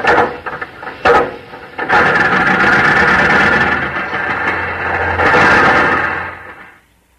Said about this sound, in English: 1927, and as the machine age is truly developing into an advanced stage, thinking young men out driving with their girls are saying, "Gee, honey, we've been cranking this here car for 15 minutes.